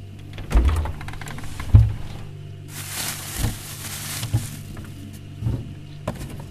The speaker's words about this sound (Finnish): Jääkaapissani hakataan seiniä.